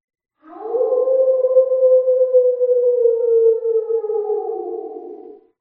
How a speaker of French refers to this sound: D'ailleurs, écoutez le loup. On l'entend hurler là-bas dans le lointain. » Les brebis prêtèrent l'oreille. Elles entendirent, en direction de la forêt, les cris glaçants d'un loup qu'elles ne connaissaient que trop.